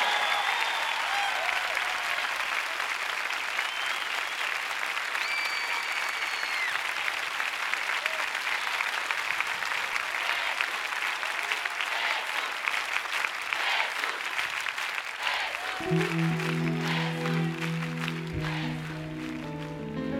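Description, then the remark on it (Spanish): A big crowd, standing, applauds and cheers for their teacher in a steady, dense wash of clapping that holds loud for about twenty seconds, with a few cheers mixed in and a sustained musical tone entering near the end. “Supera ese aplauso por 10-1 todavía.”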